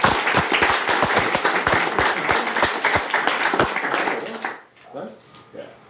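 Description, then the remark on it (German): A crowd applauds with dense, steady clapping and sharp individual claps standing out, then it fades quickly after about four and a half seconds as a voice begins talking. “Und nochmal einen Applaus für unseren.”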